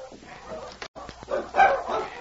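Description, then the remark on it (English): A pack of sled dogs barks and snarls in a noisy, overlapping fight, with sharp yelps and growls rising and falling over a couple of seconds. “When they bark like that, they are fighting.”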